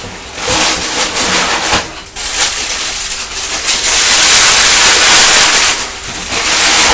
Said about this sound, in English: The cornflake packet making a crunchy sound. They're crunchy to eat and they're crunchy to get in and out of the box, aren't they?